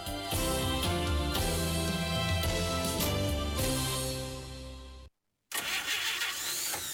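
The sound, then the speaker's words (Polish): An old car engine cranks loudly, grinding and sputtering as it struggles to start for about five seconds, then cuts out briefly before a rougher mechanical rattle resumes. No one speaks. “zostaw tego grata w spokoju.”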